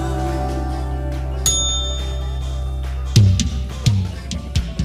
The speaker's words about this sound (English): Got the bell in there for ….